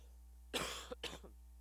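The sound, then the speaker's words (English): Two quick coughs in succession, harsh and breathy bursts with a short gap between them, against a steady low hum and no talking. “Excuse me, I'm going to cough for a second.”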